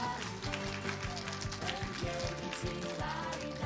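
A church audience applauds steadily to bless a woman at her baptism, dense crackling clapping at an even loudness throughout, with low sustained musical tones humming underneath.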